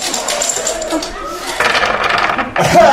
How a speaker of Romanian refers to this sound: Să jucăm la zaruri. Da, da, o jucăm la zaruri.